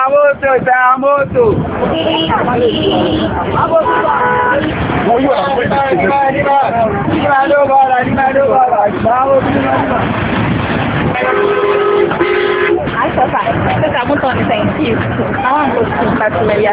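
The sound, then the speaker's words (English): A busy lorry station in Accra with repeated car and bus horns honking over a constant crowd babble and engine noise, loud and continuous throughout. “A visit to a lorry station in Accra gave the impression that girls undertake hawking businesses to assist their parents to be educated.”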